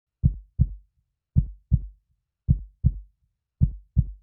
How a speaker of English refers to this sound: Listen, feel, and walk to the pace of your heartbeat.